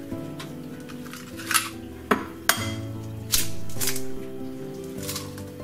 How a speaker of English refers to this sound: Now for this, just get a microwave safe bowl. Crack, or however many eggs in there that you want.